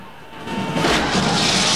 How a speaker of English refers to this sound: One of the goons hanging onto it loses his grip and falls, crashing through a neon sign on his way down.